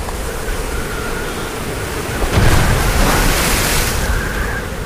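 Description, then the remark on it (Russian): Sea waves crash against rock during a strong storm at sea, in a steady roar of surf, with one heavier wave surging in loudly midway and slowly washing back out. No voices are heard. “Разбили волны о камень дубовый гроб.”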